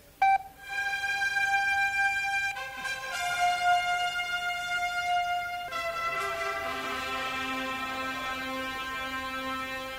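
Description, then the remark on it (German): A radio time signal marking 12 o'clock at the on-air launch of Radio KW, local radio for the district of Wesel, on 6 May 1990, live from the Kornmarkt in Wesel: loud, steady electronic tones that hold and then shift pitch twice, ringing on with a bright, synthetic quality and no voices. “Beim nächsten Ton ist es 12 Uhr, 0 Minuten und 0 Sekunden.”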